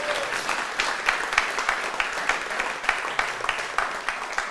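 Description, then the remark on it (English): An audience breaks into sustained applause, thanking God and welcoming a newly installed Minister in Word and Sacrament, many hands clapping together in a dense, steady wash for several seconds without any voices standing out. “So let's thank God by also giving him a round of applause.”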